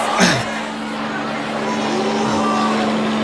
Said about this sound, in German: Der Hubschrauber! Pedro kommt zurück! Da kommt euer Anführer ja wieder!